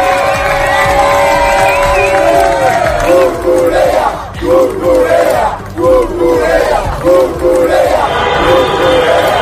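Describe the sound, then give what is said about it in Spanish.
A large crowd celebrates Spain's football victory, bathing in fountains in curly wigs and shouting Cucurella's name, chanting together in loud, rhythmic bursts, with cheers and whoops rising over a constant roar of voices. “Momentos como este, baños con pelucas de rizos en las fuentes al grito de Cucurella”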